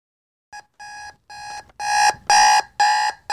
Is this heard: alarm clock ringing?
yes